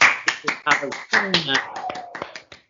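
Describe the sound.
A few people clap in quick, uneven bursts of sharp slaps for a Parkrun Cup runner's new personal best, with voices cheering and talking over the applause throughout. The clapping fades slightly toward the end.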